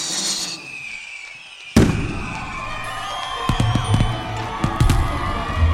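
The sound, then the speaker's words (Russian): Fireworks going off: a sudden loud bang after a quiet opening, then a string of sharp pops and crackles with whistling sparks, a faint crowd murmuring underneath. “В годы его правления фейерверки устраивали в каждый значимый праздник.”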